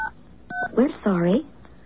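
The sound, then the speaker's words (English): Two short electronic telephone keypad dialing beeps, each a steady dual tone, sound one after another as a phone number is dialed, then a voice speaks briefly. “Okay, let's try calling us now.”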